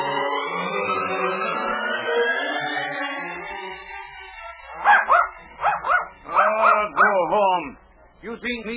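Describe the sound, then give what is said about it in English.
A small short-legged dog named Schnitzel, following a man, lets out a long, drawn-out whine, then breaks into a quick run of sharp, high-pitched yips and barks, fairly loud, with brief pauses between bursts. “This funny-looking animal, he keep following me and barking all the time.”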